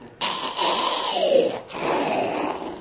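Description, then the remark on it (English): Two loud, rasping snores from a father follow one another closely, each a drawn-out noisy breath, with no talking around them; he snores whenever he opens a religious book (sefer). “You're snoring.”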